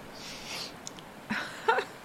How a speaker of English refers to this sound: The sniffing, you heard that, huh? No, not allergies. It's a bit embarrassing, but sometimes I like to take quick inhales of myself. I don't know why. I just like my own smell, you know?